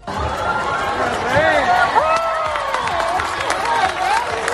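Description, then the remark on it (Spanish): A large crowd cheers and applauds steadily as King Felipe and Queen Letizia arrive to preside over the Armed Forces Day parade in Granada, Spain. Many voices shout and whoop over a dense patter of clapping, holding a fairly even loudness throughout. “Los reyes Felipe y Leticia llegaban entre vítores y aplausos para presidir el acto, un desfile en el que se han celebrado 35 años de la presencia de la mujer en las Fuerzas Armadas.”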